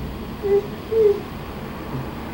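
Two short, soft burps from a small child, about half a second apart, against a quiet background with no talking.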